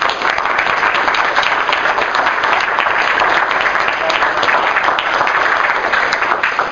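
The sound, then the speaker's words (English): An audience applauds steadily for a collective of speakers, a dense, bright wash of many hands clapping at an even, loud level throughout, with no voices rising above it. “So that probably calls for a round of applause for the collective.”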